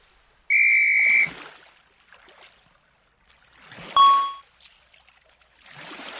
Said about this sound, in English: There's a whistle in the box.